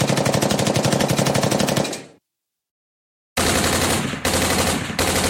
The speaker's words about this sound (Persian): اعضای SLA که تفنگاشون رو به حالت تمام خودکار تغییر داده بودن، بیشتر از 4000 گلوله به سمت پلیس شلیک کردن. و البته پلیس لس آنجلس هم با 5000 گلوله جوابشون رو داد.